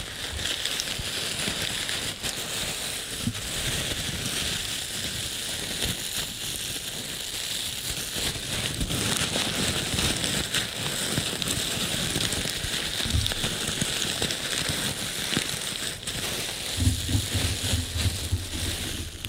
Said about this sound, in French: Ouais, mais ça y est, ça change le bruit. Ouais. Parce que l'autre faisait plus d'été. Alors que là, on est rendu plus. Bah, c'est ça, une tempête. Oui, il y a des craquements de plus. Ouais, ça fait une pluie plus lourde.